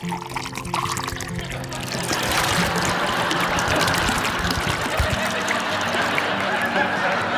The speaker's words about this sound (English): Mom pours herself a glass of wine after work.